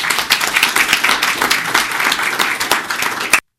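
A crowd applauds steadily, many hands clapping in a dense, loud wash of crackling claps that holds even for over three seconds before cutting off abruptly.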